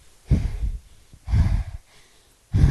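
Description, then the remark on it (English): Heavy, labored panting from a person riding a bicycle up a hill: three loud, rough breaths arrive about a second apart, each a forceful huff with a brief quieter pause between, with no talking. “This is me riding up a hill. In my opinion, there is no breezy romance in panting up a hill.”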